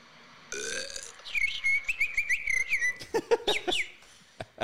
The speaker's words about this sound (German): Also das Pfeifen ist ja Wahnsinn. Achtung. Ich würde es euch dann einfach so anhören.